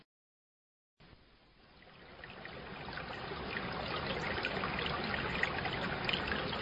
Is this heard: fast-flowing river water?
yes